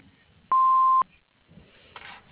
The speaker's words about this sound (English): You have reached FS Design and Construction. You may leave your message after the beep. Thank you.